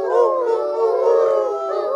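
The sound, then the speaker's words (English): A man imitates an owl, calling as the father does under the moon in a reading of the children's book Owl Moon, with a long, wavering, hooting call. The voice is loud and steady, holding for about two seconds with slight rises and falls in pitch, and no speech. “He looked up as if searching the stars, as if reaching a map up there, and the moon made his face into a silver mask. And then he called.”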